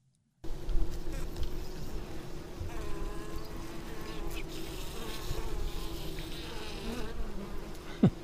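insect, bees buzzing

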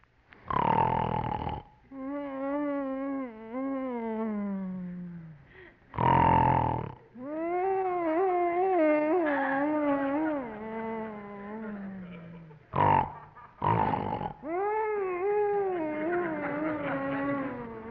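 human body sound, man snoring

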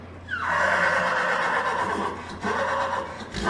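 animal, horse neighing

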